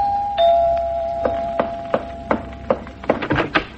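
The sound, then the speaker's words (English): A doorbell rings with a steady, sustained electric tone, while a series of sharp knocks strike over it, coming faster and clustering toward the end. No one speaks. “They left the matter there, but the next day the doorbell rang.”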